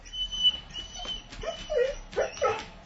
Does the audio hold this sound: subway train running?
no